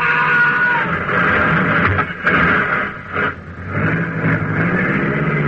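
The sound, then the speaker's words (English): A speeding car roars loudly, its engine steady and droning, broken by a couple of brief jolts midway as it runs over a kid who ran in front of it; no one speaks. “Mike, you ran over him.”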